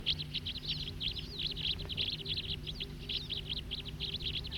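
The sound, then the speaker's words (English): A flock of about 20 or 25 small birds, including siskins, in trees around a ranger station parking lot keeps up a busy chatter of high, overlapping chirps and twitters, continuous and fairly even in loudness over a low background hum. “There's a flock of about 20 or 25.”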